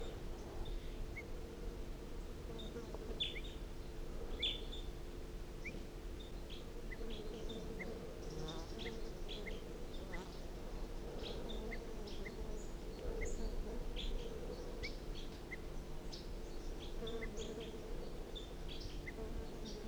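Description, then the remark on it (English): Wild birds give short, sharp alarm calls scattered throughout, over a steady low drone of buzzing insects; no one speaks. “So recording again, wild bird, alarm calls.”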